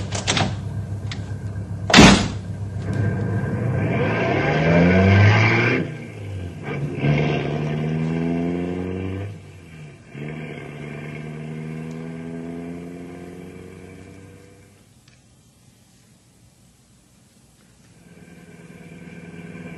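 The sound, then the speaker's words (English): A car door slams shut with a sharp thud, then an engine starts and revs up through a few gear changes as the car pulls away, its rumble gradually fading. “Okay, hop in. We'll take a look.”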